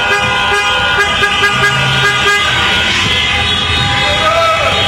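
Car horns blare continuously and loudly as fans across Croatia celebrate the national team reaching the football World Cup final, overlapping steady tones layered over a busy street din and indistinct crowd voices.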